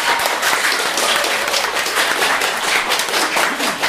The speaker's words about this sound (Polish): Ale pozostali mieli niewiele mniej, dlatego ex aequo drugie miejsce zdobyły pozostałe szkoły. Wielkie brawa dla was.